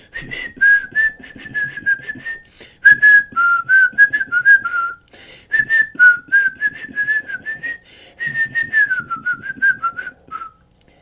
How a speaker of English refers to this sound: And that cat is all about that whistle.